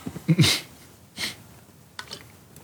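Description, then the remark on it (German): A harsh, loud cough bursts out, followed a moment later by a second, softer cough and then a faint, brief rasp, with no talking around them. “Weil ich gerade husten musste.”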